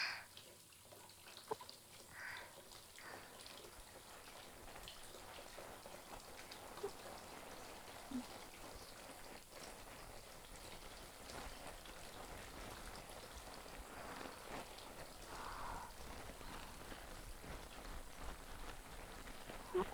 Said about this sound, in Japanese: そうと決まればボディーソープを手に取って、しょ、ふわふわになるまで泡立てるっちゃ。